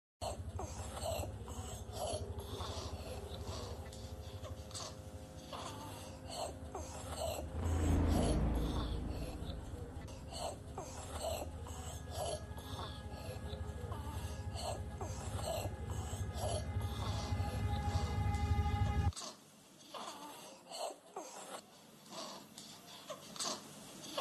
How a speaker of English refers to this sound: But this is about Kamala Harris and Tim Walz of babies that were gasping for air. Very hard to listen to